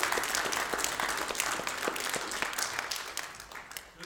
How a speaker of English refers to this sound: Let's give those kids another round of applause. That was pretty fun, wasn't it?